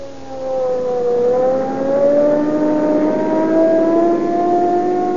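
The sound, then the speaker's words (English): A police car engine, running on Rio Grande cracked gasoline, roars as it accelerates hard to 80 miles an hour, its pitch climbing steadily into a high, sustained whine at speed, loud with no talking. “Now, there we are. 80 miles an hour. Boy, I'll show you what police car performance means.”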